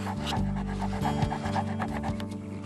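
A dog pants rapidly and rhythmically, quick breathy huffs repeating without pause over a steady low hum in the background.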